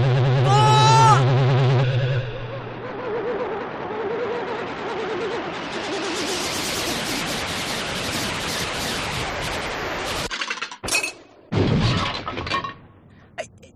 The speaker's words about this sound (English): I smashed the windscreen of a flying saucer.